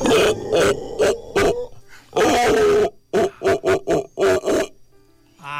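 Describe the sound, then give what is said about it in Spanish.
A person imitates a black howler monkey's howl: loud, raspy, guttural, metallic bursts, first a few short pulses, then a sustained roar, then a quick run of choppy grunts. “Y el aullador negro es más metal, más metálico, así.”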